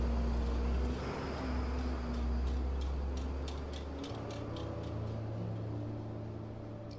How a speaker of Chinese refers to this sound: 苏雪薇和方雨涵都坐在车里，正准备做最坏的打算的时候，突然从后视镜中反射出一丝光亮，随后就听见一阵汽车引擎的声音从远处传来。